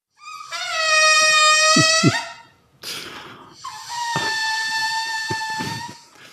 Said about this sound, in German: Ja, das ist das Geräusch, das entsteht, wenn einem prall gefüllten Ballon die Luft entweicht.